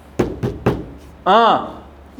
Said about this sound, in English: and so I stayed after Mass. I went knock on his door.